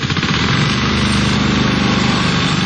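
A lawn mower engine drones steadily as city service workers cut grass at a memorial to Yugoslav Partisans and Soviet Red Army fighters before 9 May, a loud continuous motor hum with a low rumbling pulse and buzzing vibration, no voices.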